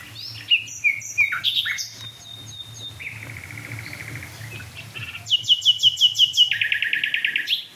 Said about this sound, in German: Oh, Nachtigall. Danke. Oh, die liebe ich so.